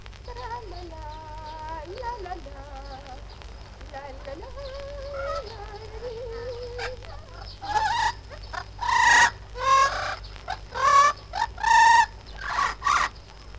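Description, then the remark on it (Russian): A blue-fronted amazon parrot sings a wavering, human-like melody, then breaks into a series of loud, harsh squawking bursts, clear with no talking. “А один голуболобый амазонский попугай даже песни распевает, как поющий человек.”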